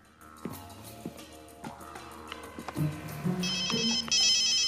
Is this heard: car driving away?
no